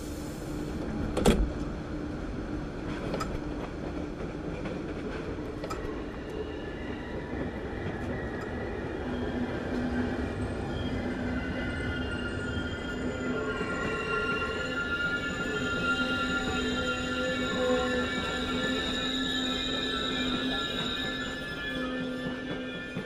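A train rolls steadily along the rails with a continuous low rumble, sustained tonal whines and occasional clicks and clunks. It sounds close, as if heard from inside a carriage, and no one speaks.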